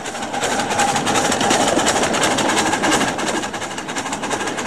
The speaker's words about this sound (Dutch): Zo rijden ze er ook in ons land, kleine treinen. Een model waar je niet in, maar op zit. Zoals hier op dit model van de Nieuwoordspoorweg in het Groninger Leek.